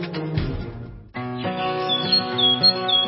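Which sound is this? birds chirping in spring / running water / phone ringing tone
birds chirping in spring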